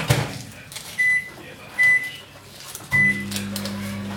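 A microwave oven beeps a few times as buttons are pressed, then starts up with a steady low electric hum that continues to the end, as milk is heated until lukewarm.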